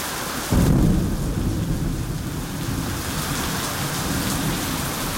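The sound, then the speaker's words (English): Heavy rain pours steadily while a deep, loud thunderclap booms near the start, followed by a continuous rumbling downpour with no voices. “The idea for this special episode was actually born during the rainy season when thunderstorms, unlike I've ever experienced, hit us almost every day and sometimes left the entire place flooded.”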